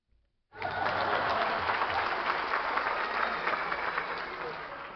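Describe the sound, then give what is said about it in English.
A burst of applause starts abruptly after a brief quiet moment, many hands clapping densely and steadily, holding strong for several seconds before easing slightly. “that round of applause is for you.”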